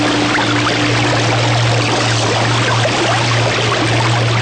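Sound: flowing river water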